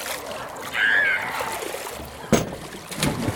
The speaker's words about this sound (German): Um zum Freibad zu gelangen, überquere ich eine schmale Holzbrücke und langsam rieche ich den Chlorgeruch des Wassers, höre das Kinderlachen, das Donnern der Sprungbretter und das Wasserplanschen.